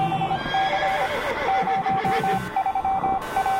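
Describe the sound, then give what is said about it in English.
A horse neighs and whinnies loudly, a shrill, wavering call that fills the few seconds, with faint hoof clatter underneath and no one speaking. “Unleash the horses. Unleash the beasts.”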